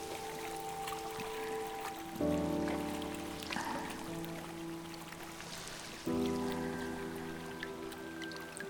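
A babbling river stream trickles steadily beneath sustained, droning musical chords that shift twice, the water's soft constant rush running the whole way through with no voices.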